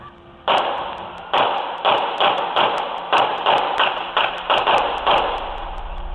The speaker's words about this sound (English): There's two different pitches of gunfire heard. Listen. Did you hear the click, click, click? It almost sounds like a click, click, click. Just listen again.